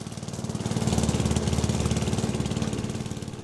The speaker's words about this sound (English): But I can't wait for my kids to start mowing the lawn, too.